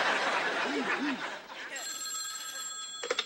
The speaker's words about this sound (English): I told you not to answer the phone.